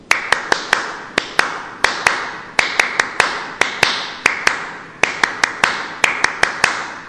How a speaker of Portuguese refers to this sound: E uma das sensações desse encontro foram as palmas dos escoteiros. Vamos fazer aqui para os nossos companheiros ouvir como são as palmas dos escoteiros?